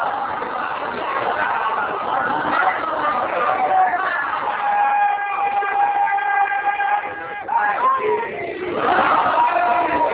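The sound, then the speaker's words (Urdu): A large audience listening to a speaker chants slogans together, a dense, loud roar of many voices with drawn-out, sustained shouted tones that swell and fall, continuing steadily without pause. “میں اخلاص کا بہت مشکور ہوں, آپ لوگ مسلسل نعرے لگا رہے ہیں, مگر میں کوشش یہ کر رہا ہوں کہ میٹیریل زیادہ آپ تک پہنچے.”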